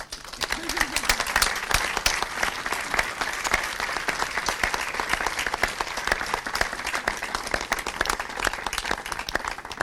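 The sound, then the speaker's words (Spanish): Sustained audience applause for the vice president of the Fundación Repsol fills the whole stretch, dense overlapping hand claps at a steady, fairly loud level with no talking over it. “el vicepresidente de la Fundación Repsol, para el que pediría un fortísimo aplauso.”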